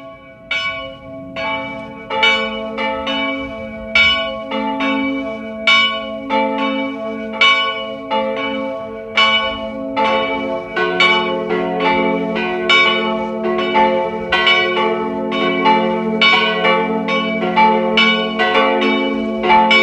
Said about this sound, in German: Es ist 12 Uhr. Sie hören die Glocken der Pfarrkirche von Winden am Neusiedlersee im Burgenland.